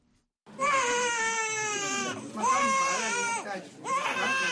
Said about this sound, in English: That is a newborn girl crying